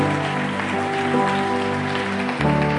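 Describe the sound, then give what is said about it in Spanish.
A crowd claps steadily in a dense, crackling wash of applause that holds its level throughout, with sustained keyboard chords ringing underneath and shifting briefly near the end. The applause is given to God during a Spanish-language sermon about the Holy Spirit. “y le das un aplauso a Dios y le dices: ¿sabes qué, Dios?”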